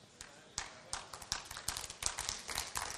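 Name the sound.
weak scattered applause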